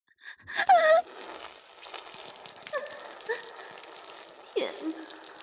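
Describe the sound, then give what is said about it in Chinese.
Urine splashes steadily onto a hard floor on a wedding ceremony stage in a continuous, spattering hiss lasting several seconds, splashing everywhere, while a voice lets out a few breathy gasps and short whimpers over it. “还在尿，还尿得那么急，又酸又热的小便噼里啪啦的喷在地上，飞溅的到处都是，声音还那么大，尿尿的样子和声音全都被人见到了。”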